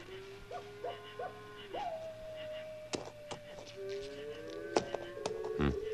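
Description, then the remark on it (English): A few short owl hoots give way to a long, wavering coyote howl that drifts and bends in pitch, with sharp clicks and snaps scattered through the quiet night air. “For instance, that old owl and that coyote might even be talking to each other.”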